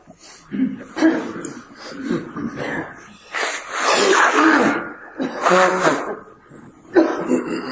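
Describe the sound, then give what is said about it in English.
Several people blow their noses one after another and sometimes at once before a group meditation, a run of breathy, honking nasal bursts of varying length, moderately loud, with a few snorts and sniffs between them. “So get ready. Blow your nose.”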